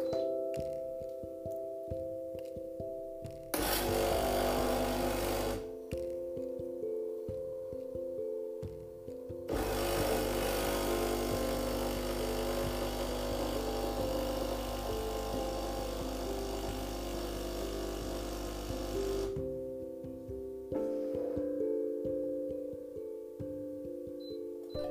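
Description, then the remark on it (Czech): A capsule coffee machine brews a first cup with a loud, rattling pump buzz in two bursts, a short one and then a long one of about ten seconds, over a steady low electrical hum. No one speaks. “Slavnostní dvojpípnutí oznámilo konec prvního vaření.”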